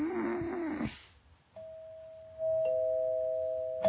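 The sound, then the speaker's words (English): The doorbell of the Simpsons' house chimes in two sustained electronic notes, a higher tone followed by a lower one that rings on, preceded by a short, rough, snoring-like rumble; Principal Skinner is at the door. “Get the door!”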